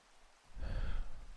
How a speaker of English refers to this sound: So instead, I stared out, the rain splattering against the window, until I drifted off back to sleep.